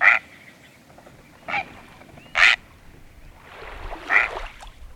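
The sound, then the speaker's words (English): A great blue heron gives harsh, croaking squawks: three short, loud rasping calls, then a longer, rougher grating call, with faint wind-like noise underneath and no talking. “That prehistoric-sounding call is from a great blue heron.”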